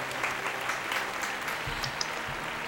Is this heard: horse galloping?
no